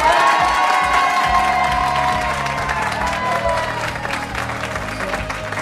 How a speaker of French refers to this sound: Mademoiselle, madame, monsieur, attention, tonnerre d'applaudissements. Voici monsieur Florent Père.